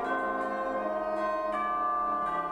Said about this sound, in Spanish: ¿Es de metal? Sí, señoras. Es de metal, adiviné. Son tubos. Y campanas tubulares en este caso.